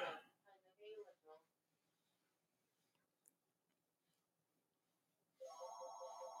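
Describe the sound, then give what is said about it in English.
A brief stretch of speech-like sound and quiet gives way to a loud, steady telephone ring starting near the end, a bright electronic tone sustained clearly. “We'll wait for that phone call to go through, and we're gonna pick it right up.”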